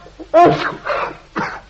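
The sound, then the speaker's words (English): A loud sneeze after taking snuff, with a voiced, throaty start, followed by two shorter breathy bursts in quick succession, like a snuffly sneezing fit. “Capital snuff, this capital.”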